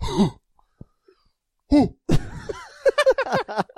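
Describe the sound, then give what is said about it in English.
A person imitates a cow coughing, the way people with vagus nerve problems cough: a short throaty grunt, a brief pause, then a run of rough, lowing cough-like bursts, fairly loud. “They cough like a cow. How's a cow cough?”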